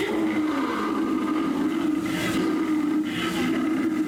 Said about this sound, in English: There we were in an explorer's launch on a mysterious river in deepest adventure land. Distance comes the fierce roar of an African lion.